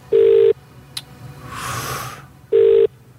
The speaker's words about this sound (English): We are dialing. Punching in.